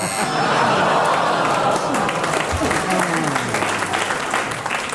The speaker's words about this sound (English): You see what happens. You get the audience with you and they want you to continue and they clap.